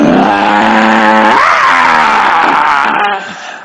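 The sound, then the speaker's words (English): A lion roars loudly, one long, harsh, sustained roar whose pitch swells upward midway before trailing off abruptly. No voices accompany it. “The lion roars fiercely. It roars.”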